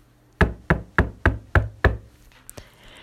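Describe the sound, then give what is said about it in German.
Six firm, evenly spaced knocks on the wooden door frame of an inn stage set during a church nativity play, resonant, followed by quiet rustling. No one speaks. “Josef klopfte an den Türrahmen der Herbergskulisse.”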